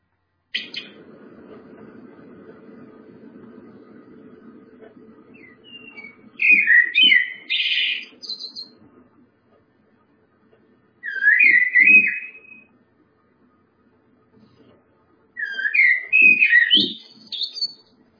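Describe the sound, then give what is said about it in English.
A blackbird sings three rich, fluting phrases separated by pauses of a few seconds, clear, after a low background rumble fades out at the start. “Let's finish just with some blackbird song.”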